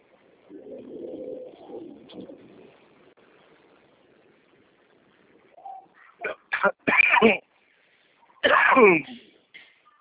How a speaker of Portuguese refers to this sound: Sua tosse, né? Pegou todo mundo. Tudo à noite piora. A tosse fica horrível à noite.